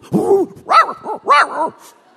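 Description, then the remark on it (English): A human voice imitates a German shepherd's high, wavering whimpers and yips as it has nightmares in the middle of the night, four or five quick rising-and-falling cries in a row, fairly loud, with no other sounds around them. “I let him sleep on the floor of my room for a while, but this crazy dog had nightmares.”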